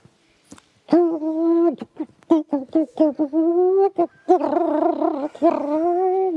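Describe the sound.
A human voice mimics a dove's cooing, producing a string of fairly loud warbling hoots with rising and falling pitch, some long and drawn out, others short and clipped.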